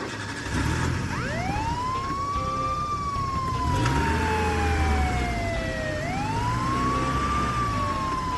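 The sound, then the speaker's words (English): A police car siren wails loudly as the car sets off chasing a car reported stolen from Grady County, its pitch sweeping slowly up and down in long rising and falling cycles over a steady rumble of engine and road noise. “And hit the siren, baby!”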